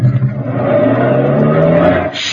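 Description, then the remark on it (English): A truck engine is started in gear and runs loud, its steady low rumble climbing as it revs for a couple of seconds, with no voices over it. “You'll step in front of the truck to unlatch the door, start your motor in gear, and...”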